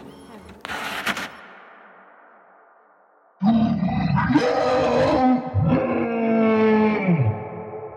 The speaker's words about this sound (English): From somewhere out of sight, the monster let out an almighty howl.